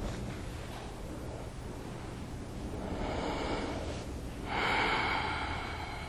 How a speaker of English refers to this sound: Just follow the air as it goes into your body and as it goes out. Breathing in through your nose and then out through your mouth. Breathing naturally, smoothly, easily, slowly.